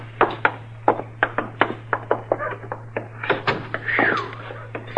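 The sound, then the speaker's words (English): Chester unlocks a door with a key: the key rattles and clicks in the lock in a quick run of sharp taps, followed by the door creaking open, over a low steady hum. “You got the key, Chester. Yes, sir.”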